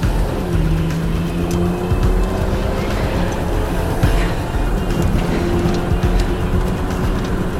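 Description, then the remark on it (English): A sedan's engine starts and roars steadily as the car pulls away, its revving pitch rising and sliding as it accelerates, loud and continuous with no voices. “She starts it up and pulls away, then secures the seatbelt.”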